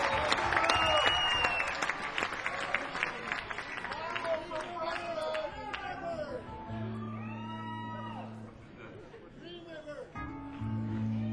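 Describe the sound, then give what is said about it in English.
A live crowd claps and cheers loudly, with scattered whoops and shouts rising over dense applause that gradually thins, while sustained tones hum underneath toward the end. “we couldn't ask for a better crowd.”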